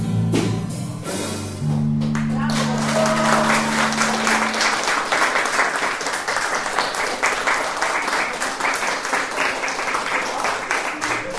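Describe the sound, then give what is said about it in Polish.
Loud, sustained applause from a crowd for a performing band at the end of a meeting on Krakowska Street, with dense rapid clapping that continues steadily to the end, following the fading final chord of music. “Gromkie brawa bez wątpienia należały się wykonawcom”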